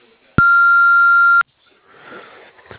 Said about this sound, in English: Hello, we are unable to answer right now. To send a fax, please try again later. To leave a voice message, please speak after the beep. Thank you.